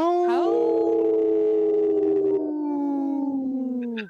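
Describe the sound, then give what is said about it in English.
Voices imitate wolves with one long, loud howl that swoops up at the start, holds steady for several seconds, then sags slightly in pitch before breaking off. “I didn't see Dr. … howl”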